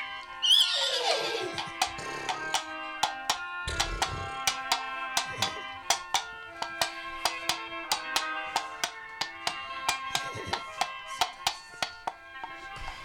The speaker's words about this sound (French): Ni une ni deux, elle monte sur son cheval noir et blanc éclair en direction de Lessine et de cette nouvelle aventure.